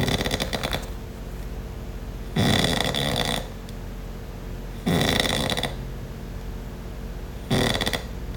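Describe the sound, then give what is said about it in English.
Heavy, rasping snores from a man sleeping on the floor repeat about every two and a half seconds, four loud bursts close to the listener with quieter breathing between them and no talking. “If you notice, with every snore, it gets a little bit more shallow and it gets a little less more quiet.”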